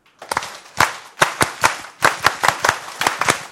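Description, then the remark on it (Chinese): An audience claps together for a graduate, a brisk run of sharp, loud claps, about fifteen in all, landing in a roughly steady rhythm with no voices over them. “我们为毕业的人拍多一次。”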